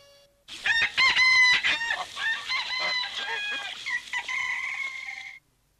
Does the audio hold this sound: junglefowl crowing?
yes